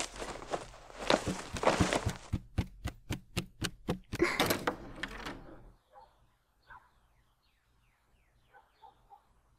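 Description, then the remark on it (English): A quick, steady run of heavy footsteps thumps down a staircase to a door, about a dozen sharp steps, before everything drops to near silence with only faint, scattered sounds. “I had a little stumble on my way down to the door.”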